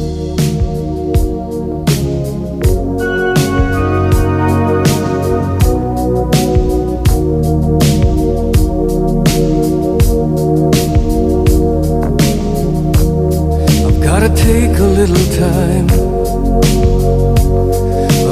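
A 1980s rock power ballad plays loud and full, with steady drum hits under sustained band chords throughout and no voices.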